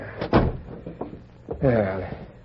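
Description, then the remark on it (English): A door is pushed shut with a single solid thud, followed by a few faint knocks and then a voice speaking briefly afterward. “I'll shut the door.”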